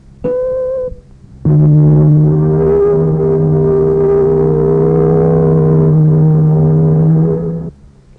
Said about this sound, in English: Here, where our historic past blends with our modern industrial life, we bring our tour to a close with the plant whistle, this time at sunset.